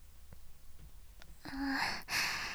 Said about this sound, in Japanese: はぁはぁ、すごい息だね。